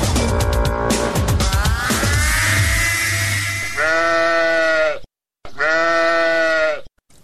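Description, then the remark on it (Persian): A sheep bought to be sacrificed for Eid al-Adha bleats loudly, several drawn-out wavering calls with a brief pause between them, following a busy opening of clatter and mixed noise. “بچه، برای گوسفند یک کمی برگ پرتو که گشنه نمانه نی.”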